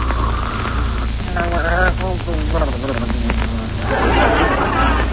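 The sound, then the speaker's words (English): Loud, theatrical snoring of a man asleep after taking pills: rasping, buzzing snorts that waver in pitch, followed by a long hissing exhale, all over a steady low hum. “Oh, listen to those beautiful pear-shaped snores.”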